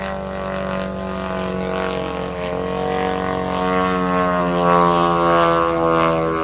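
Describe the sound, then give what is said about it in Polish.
A Polish Szerszeń propeller-driven attack drone, built by the Air Force Institute of Technology, flies by, its engine a steady, buzzing drone with a dense harmonic whine that holds loud throughout and swells slightly toward the end, with no voices. “Czyli szerszeń, który jest pierwowzorem do właśnie polskiego Shaheda.”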